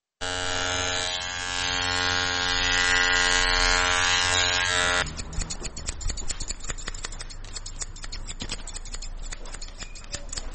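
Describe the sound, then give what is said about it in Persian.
Electric hair clippers buzz steadily and loudly for about five seconds in a barbershop in the Chaharrahi Salim Karwan area of Kabul, then shift to a rougher, crackly snipping and rasping as they cut hair short. No one speaks. “هر قدر که زحمت بکشی تا بیان باز هم نمایان می شود، پس مجبور می شوی که آن را تراشیده و یا ماشین کنی یک نمبر، نیم نمبر و یا ماشین صفر کنی.”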